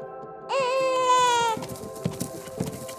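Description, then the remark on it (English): In a playback experiment with deer mothers, a human newborn baby's cry comes through a speaker as one drawn-out wail lasting about a second. Quieter outdoor rustling and soft thuds follow, over a steady low hum. “And there she goes again, this time for a human baby.”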